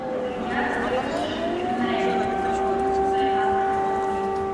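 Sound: air raid siren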